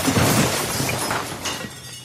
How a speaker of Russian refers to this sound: Зазвенели разбитые стекла, дверь лаборатории крякнула и сорвалась с петли.